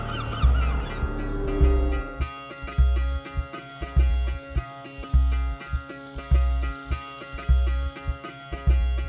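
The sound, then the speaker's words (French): Seagulls in Morbihan cry out in a short burst of squawking calls, quickly joined and then carried along by music with a steady, thumping bass beat. “Dans le Morbihan, même les goélands écoutent Radio Corrigan.”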